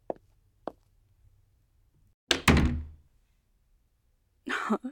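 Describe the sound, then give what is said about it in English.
A couple of faint knocks, then a heavy door swings shut with a loud thud that rings briefly before fading as someone leaves; another muffled sound follows near the end. “Close the door on your way out, okay?”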